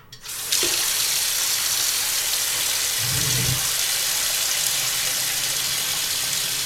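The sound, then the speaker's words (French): Water gushes steadily from a tap into a bathtub, a loud, continuous hiss of running water that starts abruptly after a brief quiet moment and holds constant, with a faint low rumble midway. “Mon plan d'attaque, faire couler un bain, lancer la musique”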